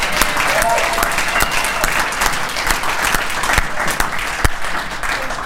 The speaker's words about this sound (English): All right, big round of applause for all our speakers. Yeah!